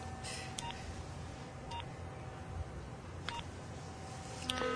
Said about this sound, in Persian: تلفن همراهش دستشه. شماره ای رو میگیره.